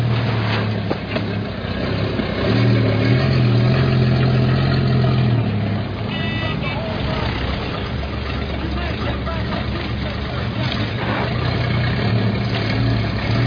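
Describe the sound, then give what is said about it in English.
A truck engine idles with a steady, deep rumble throughout, fairly loud, with muffled voices and clatter mixed in over the drone. “Next truck up, Webster. You'll find 2nd.”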